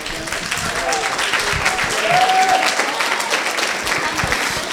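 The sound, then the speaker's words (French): Sustained audience applause for a pupil of Niki de Saint-Phalle at the start of a tongue-twister challenge, a dense, steady wash of many hands clapping at fairly even loudness throughout, with a brief whistle-like tone rising out of it midway. “Et bien justement, pour débuter cette épreuve du bafouilloir, je vous demande d'applaudir l'élève de Niki de Saint-Phalle.”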